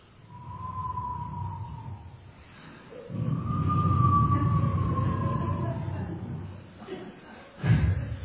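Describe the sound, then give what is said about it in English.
A voice imitates creaking floorboards and doors with two long, drawn-out wavering creaks, the second longer and louder, followed by a short rough burst near the end. “And every floorboard which they trod on, and they opened the doors, everything was creaky.”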